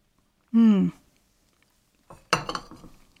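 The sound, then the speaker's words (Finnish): A short hummed vocal sound fades out, then after a pause a teacup clinks against its saucer as tea is sipped, followed by a few lighter clattering taps and soft rustling. “Täytyypä nyt siemaista tätä teetä tosiaan.”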